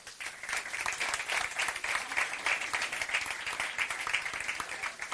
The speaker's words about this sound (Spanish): Les damos las gracias a los tres y les invitamos a tomar asiento con este aplauso.